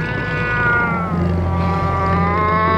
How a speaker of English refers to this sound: The cat let out a thunderous yowl, jolting Margriet from her terrified stupor.